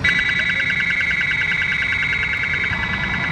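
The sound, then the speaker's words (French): Synthetic gull distress cries, used on the move during runway checks to scare gulls and other birds away, play as a loud, continuous electronic warble: high, rapidly pulsing tones that hold steady for a few seconds over a low rumble, with no voices. “Donc ça, c'est des cris synthétiques pour pas qu'il y ait cette accoutumance.”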